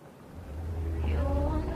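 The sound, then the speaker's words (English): A car drives along a dirt path winding through a forest, its low engine rumble swelling steadily louder as it approaches, with a faint tonal whine riding above the steady drone. “A car now drives along the path.”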